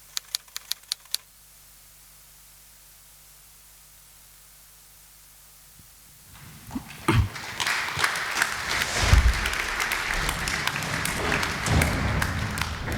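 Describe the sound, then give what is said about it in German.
A few faint clicks in near-silence give way to a burst of audience applause after a film screening that swells and continues steadily, dense and fairly loud, until the end. “Genau, ich finde auch, der Film hat Applaus verdient.”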